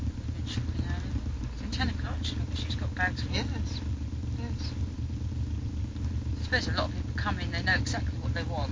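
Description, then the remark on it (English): A steady low engine rumble of a car slowly driving out of a car park, continuous throughout, with people talking over it. “There's a car coming out, so it should change colour.”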